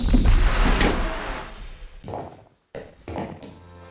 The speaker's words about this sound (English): You push the door in.